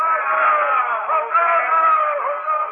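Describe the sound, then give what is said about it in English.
A street crowd cheers as they crowd round a man and strew his path with palm leaves and flowers. It is one steady, loud wall of overlapping voices, with shouts and calls rising and dipping slightly but never breaking into silence. “how they crowd round him and strew his path with palm leaves and flowers.”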